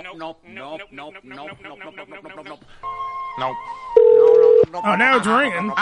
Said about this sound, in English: Now it's ringing. That's hopeful.